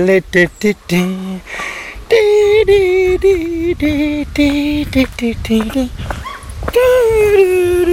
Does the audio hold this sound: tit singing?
no